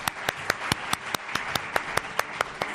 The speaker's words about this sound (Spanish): Aplaudan ustedes.